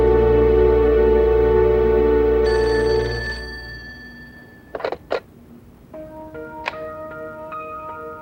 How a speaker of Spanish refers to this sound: Suena el teléfono de la habitación de Tintín.